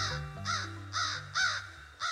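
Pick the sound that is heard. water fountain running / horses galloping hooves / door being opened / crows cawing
crows cawing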